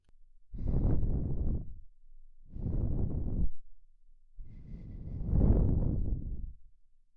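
Three soft, breathy exhales blown onto the listener's ear, each a gentle airy whoosh lasting about a second, separated by short pauses, intimate with no talking.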